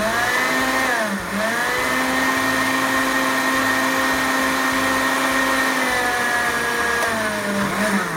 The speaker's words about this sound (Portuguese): Bom, essa linhaça que ficou de molho, eu vou colocar aqui no liquidificador. Vamos lá, ó. Tô usando a mesma água que ela tava de molho, tá? E agora eu vou bater. Bater bem, bem, bem, bem, bem mesmo. Vamos lá.